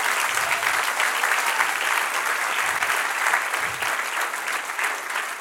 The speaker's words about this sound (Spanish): Dale un aplauso al Señor, no lo contrario.